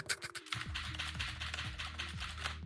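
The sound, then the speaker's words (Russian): Rapid, crisp clicks of a mechanical keyboard being typed on, keystrokes tumbling in an uneven but steady stream, with a brief spoken word at the very start. “Да, и в финале такие щелчки механической клавиатуры у нас должны пойти”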